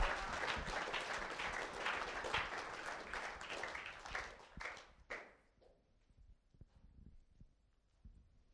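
A crowd applauds with dense, crackling claps for about five seconds, then the clapping thins out to a few scattered claps and fades away.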